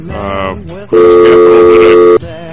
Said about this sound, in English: Dial tone. I'm guessing we don't quite have him,